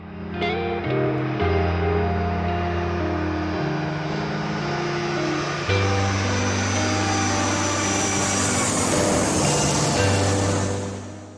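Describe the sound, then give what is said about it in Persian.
A steady, loud airplane cabin roar fills the whole clip, a dense whooshing hiss that swells slightly, with deep sustained tones shifting underneath and no one speaking. “سوار هواپیما شدم و گوشیمو گذاشتم روی حالت پرواز.”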